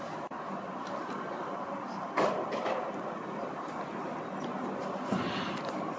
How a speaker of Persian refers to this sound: این پنکه رو نمیشه خاموش کرد.